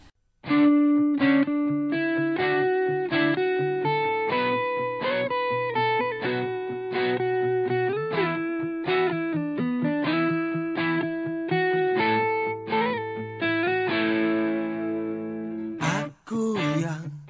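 A loud, distorted electric guitar plays the intro of a cover version of a rock song, chords changing roughly every second, then a ringing sustained chord and a sharp final hit. No voices are heard.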